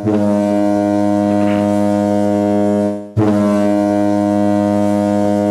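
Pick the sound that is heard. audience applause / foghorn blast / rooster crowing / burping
foghorn blast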